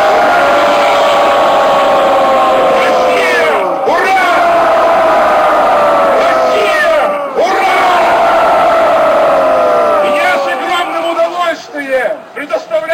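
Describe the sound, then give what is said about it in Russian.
A large crowd at a rally against fraudulent elections in Novosibirsk, Russia, shouts a sustained, rolling cheer of "Ura!" (hurrah) for the people, loud and continuous with dense overlapping voices, surging in repeated waves before breaking up toward the end. “Давайте крикнем «Ура!» нашему народу!”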